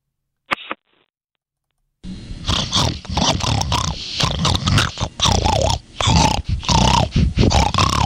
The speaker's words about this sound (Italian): Ecco, questo qui era il maiale che è entrato un attimo nello studio per sottolineare quanto, ad esempio, lo sfruttamento, gli allevamenti intensivi di maiali siano veramente terribili.